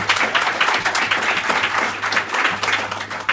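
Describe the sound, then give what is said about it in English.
A crowd applauds steadily, with many hands clapping in a dense, sustained wash of sound at an even, fairly loud level for a few seconds. “Applaud.”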